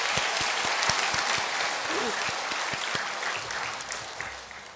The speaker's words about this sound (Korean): 그리고 여러분들도 대단히 수고 많으셨습니다. 박수로 격려하십시다.